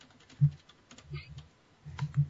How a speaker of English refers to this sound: So, there's still some typing going on.